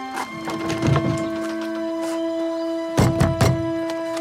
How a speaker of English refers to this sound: In a farmyard, Hathaway walks past some chicks towards a dilapidated old stone house. He unfolds the picture of scowling, mean-looking Johnny Jay and looks at it, then walks up to the door of the house and tries to open it.